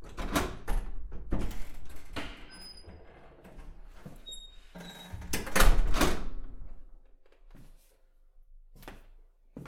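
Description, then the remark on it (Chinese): Metallic clicks and rattles of a lock as a door is unlocked with a key left under the doormat, then the door creaks open with a brief squeak and a heavy thunk, followed by a few quieter knocks. No one speaks. “钥匙在门口地毯下面呢。你自己开门进来吧。”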